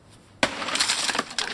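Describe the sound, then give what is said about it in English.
A sudden loud smash of jugs breaking against the front of a door, followed by a scatter of crashing, tinkling shards and a second smashing burst near the end. There is no talking. “you pelt the front of your door with jugs.”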